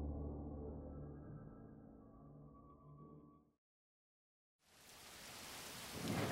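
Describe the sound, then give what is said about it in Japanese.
A low, rumbling wash of heavy rain fades into silence, then steady rain returns as a bright, hissing downpour that swells louder toward the end. No one speaks. “また雨とは、もう、まっすぐに止むだろうけど、屋根のある場所行くぞ。”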